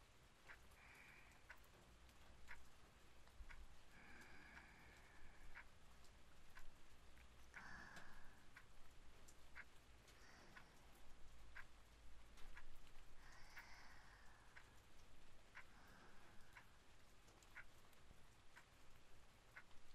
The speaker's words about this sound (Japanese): 雨止むまでこうしてよっか。今日は天気晴れだったはずだけどね。